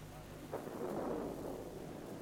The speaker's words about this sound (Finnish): Tulee ukkonen yöksi. Niin näyttää tulevan. Ulkona on aivan pimeätä. Siellä salamoikin.